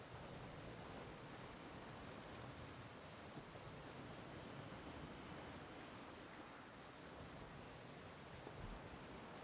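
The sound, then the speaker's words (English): Water waves lap up onto a shore with stones and wash in a steady, continuous hiss of surf with no clear breaks between them, holding an even loudness throughout with no voices. “With the stones and the water.”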